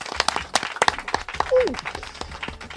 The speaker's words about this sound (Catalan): Jo crec que això mereix un aplaudiment.